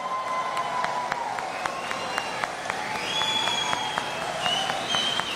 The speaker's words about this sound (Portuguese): os que aprovam essa declaração final, por favor, fiquem em pé e aplaudam a declaração final da cúpula social do G20.